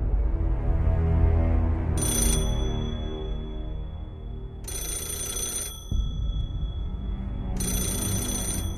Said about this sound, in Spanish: El teléfono negro anuncia que son las 3:30 en punto de la madrugada.